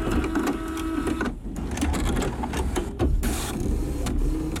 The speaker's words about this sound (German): Und deswegen kommt hier frisch aus dem Drucker die E-Mail